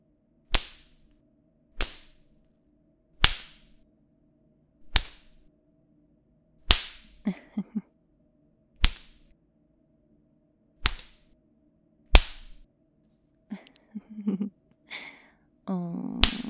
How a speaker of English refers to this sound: How does that feel? The leather slapping your thighs like that? It stings, even through your pants.